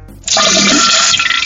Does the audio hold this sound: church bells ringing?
no